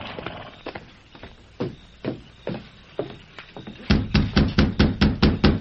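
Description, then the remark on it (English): The Lone Ranger knocks on the wooden door of Bell Webster's rundown ranch: scattered thuds at first, then a quick, steady run of about eight loud raps, with no one talking. “When the Lone Ranger left Sheriff Pollard's office, he rode directly to Bell Webster's rundown ranch, dismounted, and knocked on the door.”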